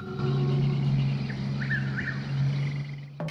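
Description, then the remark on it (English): A steady, low engine drone of two cars moving along a winding road through light mist, past a body of water, holds throughout, with a few faint bird chirps in the middle and no one speaking. “The cars drive on past a body of water.”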